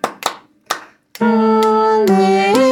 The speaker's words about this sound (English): We've got the metronome going. 2, ready, and. Alleluia. Alleluia. Clap. Alleluia. Alleluia. Clap. Now with notes. Alleluia. Alleluia. Clap.